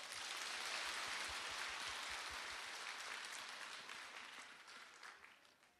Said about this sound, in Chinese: 鼓掌。